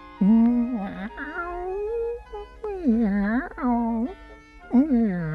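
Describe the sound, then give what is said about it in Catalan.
A person's voice imitates the cat in the tale of the rateta presumida, giving several drawn-out, pitch-sliding meows in a row, fairly loud and alone, each rising and falling in a whiny, wavering tone. “En sentir-lo miolar, el cor de la rateta se'n va enamorar.”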